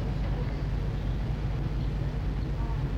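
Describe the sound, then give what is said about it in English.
A deep, steady boat engine rumble drones continuously, with low throbbing tones and a faint wash of higher noise, heard on board a boat at night. “By his mercy, we are on this boat tonight.”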